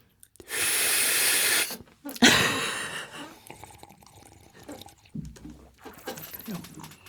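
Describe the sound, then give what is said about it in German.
Someone slurps coffee in two loud, hissing pulls, a long one followed by a shorter one, then quieter murmuring and small mouth noises follow. “Da hat doch einer geschlürft, oder habe ich das falsch gehört?”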